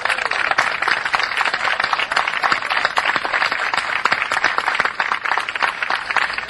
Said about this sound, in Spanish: termino agradeciendo vuestra atención y pidiendo un aplauso para todos ellos. Muchas gracias.